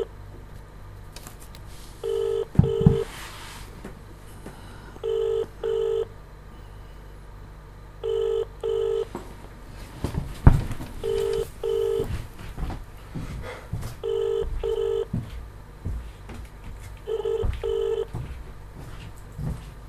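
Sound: telephone call ringing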